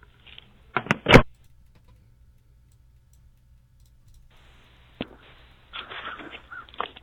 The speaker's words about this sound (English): Is that a bird? Yeah, he's outside.